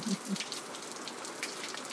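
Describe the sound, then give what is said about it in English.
Rain that has just started patters down steadily outside on a windy late morning, a dense hiss of countless drops with a few sharper taps, heard from a computer room through a slightly open door at moderate, even volume. “I love the sound of the rain.”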